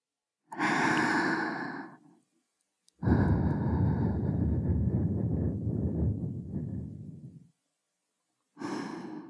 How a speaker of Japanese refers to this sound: 気持ちいいこと、お耳にしていくね。女の子にお耳ふうふうされるの気持ちいいでしょ。